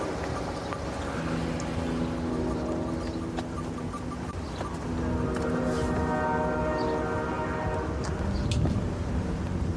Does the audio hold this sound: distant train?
yes